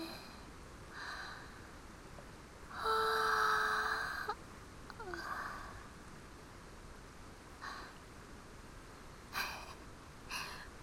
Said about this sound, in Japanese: ごめんね、せっかくのデートやのに大きいあくび出てまった。